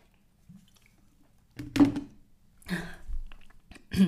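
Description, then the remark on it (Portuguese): Wet sounds of someone drinking water: a sip followed by a few distinct swallowing gulps in short bursts, with quiet pauses between and no talking. “Desculpem, pausa para a água outra vez.”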